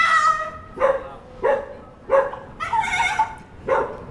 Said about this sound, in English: That unbelievably is a dog. That was terrifying. Oh, you wouldn't get that if you took your cat to the pub, would you? That was the strangest sound I'd ever heard.